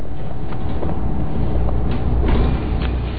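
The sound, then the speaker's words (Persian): A bus's engine rumbles steadily at 5 a.m. in thick morning fog, a deep continuous drone heard from a distance that swells slightly near the end as the bus draws closer. No one speaks. “صدایی را از دور میشنوم، بیشک صدای اتوبوس است، اما مه صبحگاهی آنقدر غلیظ است که من به هیچ عنوان چیزی را نمیبینم.”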